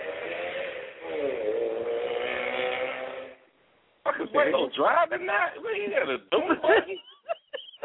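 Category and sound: vehicle, motorcycle engine running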